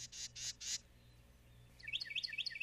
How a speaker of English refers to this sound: Sound familiar? That's the one. It's a Carolina wren.